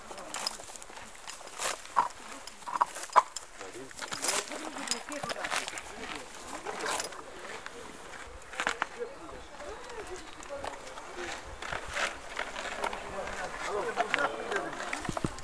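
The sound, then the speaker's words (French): Steady, rhythmic hoofbeats of a mare moving at a trot, with sharp thuds repeating over a soft outdoor background and faint voices now and then. “Après moi je trouve que c'est beau quand elle trotte ou quand elle galope aussi.”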